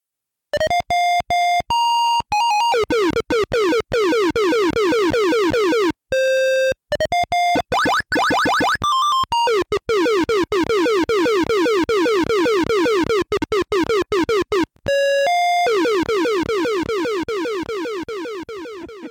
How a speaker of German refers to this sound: Er muss immer hin und her springen und das ist ganz schön verwirrend. Und ihr könnt ja mal versuchen zu bestimmen, was von den folgenden Piepsgeräuschen jetzt Musik sein soll und was Spielesound.